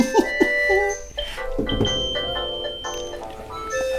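A mobile phone ringtone plays an electronic melody of steady, bright synthetic notes that step between pitches, continuing at a fairly even loudness for the whole stretch without any talking.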